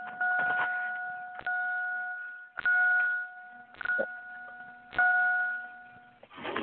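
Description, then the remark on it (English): A gong-like chime struck again and again at a steady, unhurried pace, each ringing tone sustaining into the next strike, with no voices. “Well, that's the gong.”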